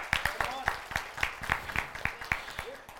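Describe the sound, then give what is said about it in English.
A church audience claps in unison to the Lord to a steady, quick beat, about four claps a second, with scattered voices calling out beneath the rhythmic clapping. “Oh, come on, if you want to give the Lord a mighty clap.”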